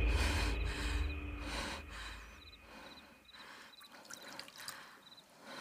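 A sharp, startled gasp of someone waking from a nightmare bursts out loud at the start, followed by quieter, ragged breathing, with a faint chirping in the background and no talking.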